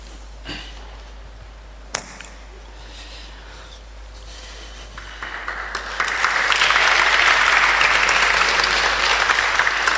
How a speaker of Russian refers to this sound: А что вы хлопаете? Вот что вы хлопаете? Что молодцы ребята?